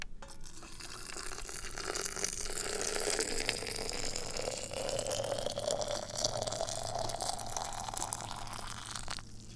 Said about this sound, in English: We open up the water boiling vessel. We position the teapot very precisely. We grab the water vessel one-handed. Ooh-ah-yah, and we start pouring.